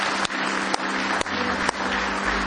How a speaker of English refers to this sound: Let's give Him one more hand clap of praise tonight.